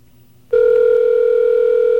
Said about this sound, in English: It's ringing, but it's not ringing here.